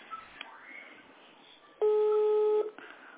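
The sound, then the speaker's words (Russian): A single steady telephone ringback tone of an unanswered phone call sounds loudly for under a second, a flat electronic hum with clear harmonics, between stretches of low background noise and faint muffled sound. “Елена Петровна не берет она сейчас телефон.”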